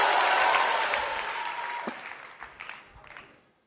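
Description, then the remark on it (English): A crowd applauds in a dense wash of clapping that gradually thins out, ending in a few scattered, separate claps before falling silent. “You know why you're not clapping?”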